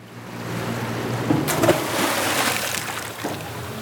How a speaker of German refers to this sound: Der Anker klatscht ins flache Wasser vor einem weiten, menschenleeren Sandstrand.